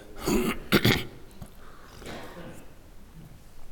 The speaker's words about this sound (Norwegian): Du hørte jeg kremte? Ja, jeg hørte det.